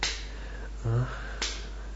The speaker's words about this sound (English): A couple of slaps on your ass.